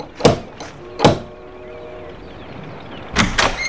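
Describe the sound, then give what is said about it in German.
A brass door knocker strikes a door with a few sharp, loud blows, two early raps and then a pair after a pause, each with a short metallic ring. “Ah, da ist sie ja. Ein toller Messingklopfer.”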